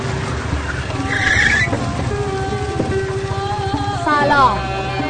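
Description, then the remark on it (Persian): A car engine rumbles steadily as tires screech briefly, then a second, louder squeal of the car skidding to a sudden stop as a motorcycle appears in its path, prominent. “نفس با ماشین در حرکتی که امیرعلی با موتورش سر راه اون سبز میشه.”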